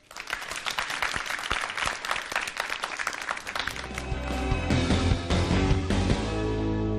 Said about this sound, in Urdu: ان کی تالیوں سے حوصلہ افزائی کیجیے گا. ایک مرتبہ زوردار تالیاں.